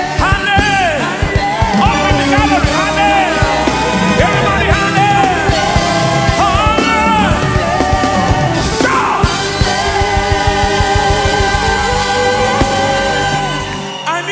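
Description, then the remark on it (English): A large church audience shouts and cries out together during a service, many voices overlapping in a loud, continuous roar of yells and wavering high-pitched calls that lasts throughout with no clear words. “Shout in this place, because there is no victory without a shout.”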